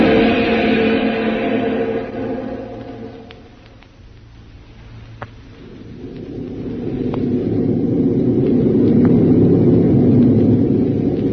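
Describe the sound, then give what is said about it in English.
A homeward bound Army transport plane's engines drone steadily in flight, a low, rumbling roar that dips quieter midway and then swells back to full strength, with no voices over it. “Now back to a homeward bound Army transport plane and Jungle Jim.”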